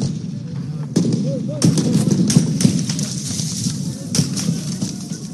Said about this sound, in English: Gunfire was heard outside the Sudanese military headquarters in the capital of Khartoum on Tuesday.